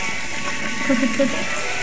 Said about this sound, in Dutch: Ik ben nu tofu aan het bakken voor de curry van vanavond.